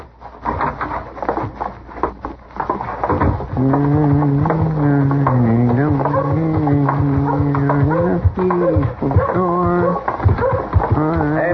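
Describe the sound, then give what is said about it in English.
Horse hooves clip-clop in a quick, uneven rhythm as a rider arrives in the town of Dodge, then continue faintly beneath a loud, sustained musical tone that swells in and dominates the rest. “Tell me, is it all right to tie my horse here?”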